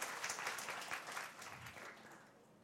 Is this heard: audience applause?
yes